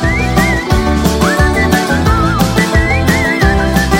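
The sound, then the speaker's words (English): A bright whistled melody weaves in short phrases over a full, punchy pop backing with steady bass and drums, sitting clearly on top of the mix as the opening of a song that represented Switzerland in 2014. “And I bet you'll be whistling this tune for quite a while.”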